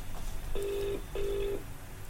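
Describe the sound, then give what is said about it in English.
Two steady electronic touch-tone telephone dialing tones sound in quick succession, each lasting under half a second and separated by a short gap, clear over a faint line hiss with no voices. “What I would like is just someone at random to phone on the phone.”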